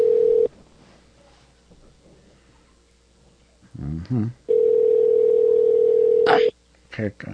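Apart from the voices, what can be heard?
phone call ringing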